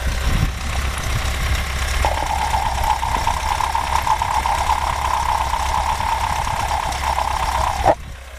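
A running engine idles with a steady, loud droning hum and a constant mid-pitched whine layered on top, heard at the engine's right side cylinder head, holding evenly for several seconds before cutting off abruptly near the end.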